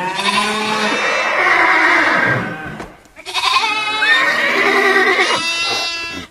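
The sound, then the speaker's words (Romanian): Herds of horses, cattle and flocks of sheep bleat loudly as they pour out of an opened chest: two long, wavering calls, each about three seconds, separated by a brief pause, with no one speaking. “Apoi, deschizând lada împreună, nenumărate herghelii de cai, cirezi de vite și turme de oi ies din ea, încât moșneagul pe loc a întinerit văzând atâtea bogății.”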